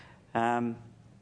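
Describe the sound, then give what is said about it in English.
A single short, bright electronic tone bursts out loudly for under half a second over a quiet background, a telephone ringtone announcing an incoming call made over a mesh network. “So that was a phone call over the mesh network there.”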